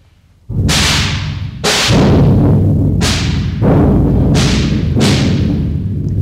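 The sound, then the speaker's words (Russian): Five or so loud, sharp gunshots and blasts go off very close to a house at irregular intervals, each with a ringing tail, over a constant heavy low rumble. No one speaks. “Выстрелы и взрывы раздались совсем близко у дома.”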